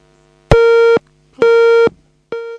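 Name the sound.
phone busy tone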